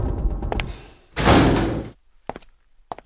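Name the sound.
door slamming shut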